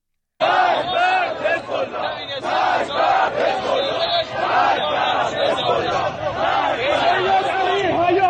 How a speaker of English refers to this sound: And we are now finding protests chanting death to Hezbollah. This is one of the proxies for Iran. Let me play this for you.